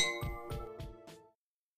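Glasses clink together four times in steady succession, each strike leaving a bright, ringing glassy tone that lingers briefly; no voices, and the sound is fairly soft.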